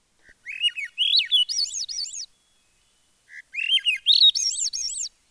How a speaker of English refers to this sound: The Swainson's thrush is kind of like a ascending, almost more like a warbler than a warbler is.